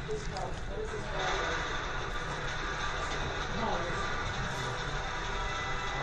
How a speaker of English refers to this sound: Another train approaching. The Flesher Brothers animated some really nice, their team animated some really nice trains.